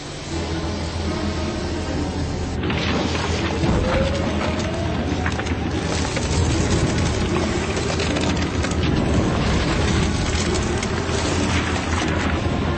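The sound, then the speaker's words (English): Heavy submarine engines rumble and grind continuously at full ahead, with deep low booms and scraping, crunching noise building as the submarine rams and crushes its way through ice; dense and loud throughout, no talking. “Nemo was going to break through the ice.”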